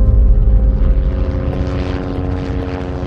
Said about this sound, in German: Und jetzt ist er im Helikopter. Wohin führt das? And now he's in a helicopter and where is he going?